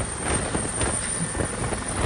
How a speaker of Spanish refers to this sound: A partir de aquí el ruido que hay es tan fuerte ya que no tenemos sonido. El ruido de las aspas se lo come todo, tanto dentro del helicóptero como fuera. Claro. Aunque grites, este es el único sonido que se graba.